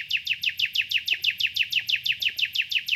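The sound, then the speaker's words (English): A male songbird sings to attract a female, a fast, steady series of bright, descending chirps, about five per second, loud, over a faint low background rumble with no voices. “Right now, I'm trying to find a female bird, and me singing is the most important thing in my life.”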